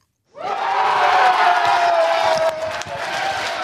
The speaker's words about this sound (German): Ein riesiger Jubel ist im Kulturzentrum Progger durch die Reihe gegangen, wo der Alain Berset zum Bundesrat gewählt wurde.